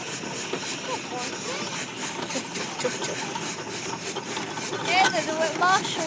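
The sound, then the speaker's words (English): A steam road locomotive, a traction engine, runs steadily, its engine giving a continuous rumbling hiss with a faint regular beat, while a murmur of voices carries in the background. “Yeah, this is a tractor or a road roller. Road loco.”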